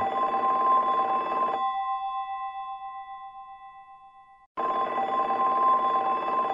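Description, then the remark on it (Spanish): A telephone bell rings loudly in two bursts of rapid metallic clanging, separated by a few seconds where a faint ringing tone lingers and fades, with no one speaking. “¡Teléfono!”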